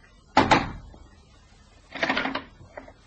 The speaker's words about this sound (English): He walked to the house off Hanover Square and knocked twice on the door.